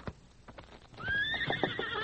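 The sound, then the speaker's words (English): Horses in a shed: hooves clop in a steady, uneven rhythm, then a horse lets out a loud, high, quavering whinny that carries on over more clopping hoofbeats. No one speaks. “Hey, doggone horses get jittery at nothing at all.”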